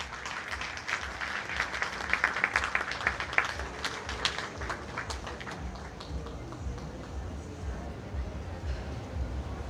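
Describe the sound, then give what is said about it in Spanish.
An audience in Apan, Hidalgo applauds to welcome Berta Miranda Rodríguez, Undersecretary of Political Development, with dense, crackling clapping that peaks in the first few seconds, then thins out and fades under a low murmur of background noise. “Fuerte el aplauso.”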